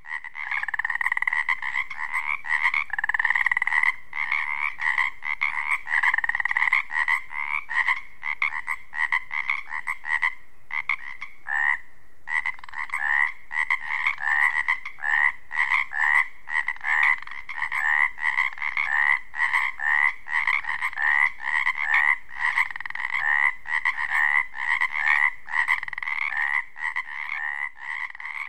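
A dense chorus of Pacific chorus frogs on the Olympic Peninsula calls continuously, overlapping rapid ribbiting croaks filling the air at steady loudness, lively with no pauses and no voices.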